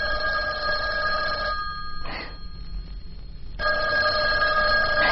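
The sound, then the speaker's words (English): A telephone rings in two loud, steady bursts separated by a short pause, with no voices over it. “The only really good thing about Fernview was the phone calls were never for me.”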